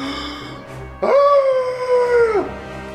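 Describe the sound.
A monster, the Sabusan, bursts in with its deafening Fell Shriek, a cry covering a 30-foot cone. It is a loud, sustained, howl-like wail that holds a steady high pitch for about a second and a half before dipping and cutting off over a low rumbling background.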